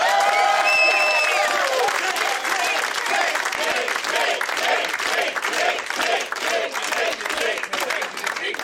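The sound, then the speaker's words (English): A comedy club audience at the Punchline applauds loudly and steadily, a shrill whistle piercing the noise at the start, then voices join in a rhythmic, repeated chant of "taint" that pulses through the clapping until the end. “The chanting, yes, they're yelling taint over and taint, over again.”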